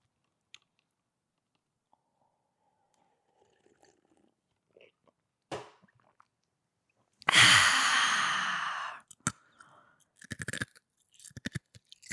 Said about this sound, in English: ASMR ice crunch.